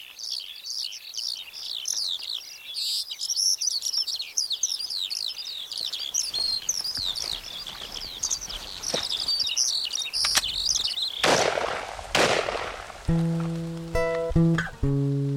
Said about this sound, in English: In the meantime, here are some bird noises.